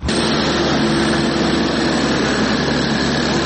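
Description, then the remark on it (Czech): A heavy machine engine drones loudly and steadily throughout, a dense low rumble with a broad mechanical roar layered over it and no voices: excavators and drills at a construction site on the Slavija roundabout in central Belgrade, where a fountain was shut off. “Vodoskoke i muziku fontane vrlo brzo su zamenili bageri i zvuci bušilica.”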